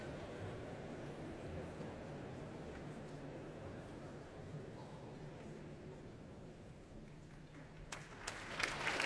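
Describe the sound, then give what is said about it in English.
A large audience at the Royal Albert Hall applauds conductor Andrew Litton and the Royal Philharmonic Orchestra after Percy Grainger's Blithe Bells, a dense, steady wash of clapping with a faint murmur of voices underneath, growing brighter and more vigorous near the end. “Applause for Andrew Litton, who conducts the Royal Philharmonic Orchestra in Percy Grainger's Blithe Bells.”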